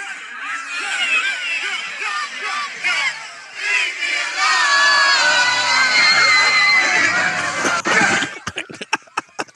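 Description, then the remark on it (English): A large concert crowd screams loudly and continuously as a performer falls onto them, high-pitched shrieks layered into a dense roar that swells toward the end, then breaks off abruptly into a few sharp bursts. “But what was funny was Kayla Rio quoted the tweet and she said, The screams from the crowd are tearing me apart because they did start screaming when you hit them.”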